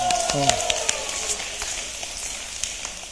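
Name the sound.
audience clapping hands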